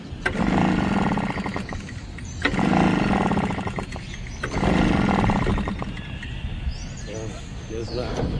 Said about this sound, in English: His gasoline-powered leaf blower is acting up today